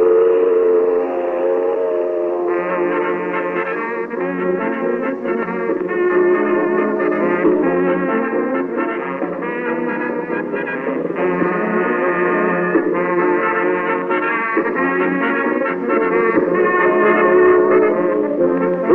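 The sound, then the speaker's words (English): A loud, sustained steel mill whistle in Wheeling, West Virginia blows continuously, its steady multi-toned wail holding for the full length without pause, with no talking over it. “And there goes the mill whistle.”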